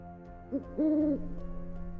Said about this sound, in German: Der Uhu rührte sich nicht, dann rief er wieder.